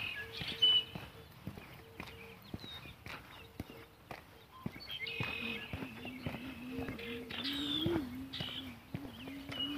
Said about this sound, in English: lot of bird song out here this morning.